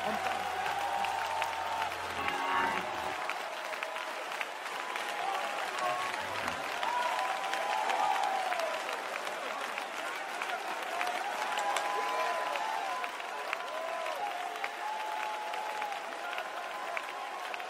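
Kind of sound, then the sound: crowd, audience clapping hands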